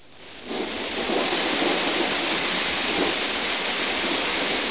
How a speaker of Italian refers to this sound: E come sentite, la pioggia continua a cadere, ormai sono passati giorni e giorni e giorni, 7 giorni di piogge, anche voi potete ascoltare un po' di pioggia se volete.